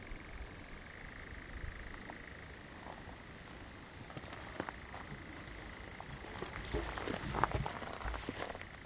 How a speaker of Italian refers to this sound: Ma questo verso sembra quasi tra il grillo, la rana. Adesso sta diventando buio, è sempre più difficile distinguere le sagome, le cose.